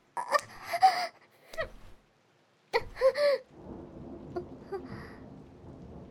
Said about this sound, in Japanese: 雷。いえ、今は全然怖くないです。